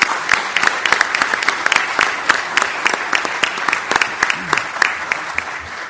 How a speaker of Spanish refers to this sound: te deseamos la mejor de las suertes y un aplauso para ti.